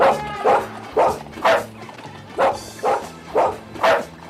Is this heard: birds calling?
no